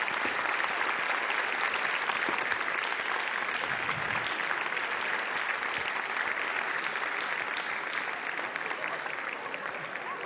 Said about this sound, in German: Wir sagen vielen Dank, dass du dich auf die Bühne getraut hast. Das ist dein Applaus.